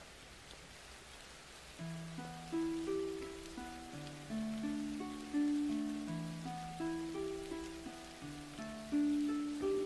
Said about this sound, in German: Der Regen setzte erneut ein, diesmal sanfter.